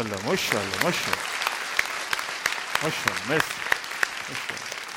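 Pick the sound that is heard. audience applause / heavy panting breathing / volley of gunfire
audience applause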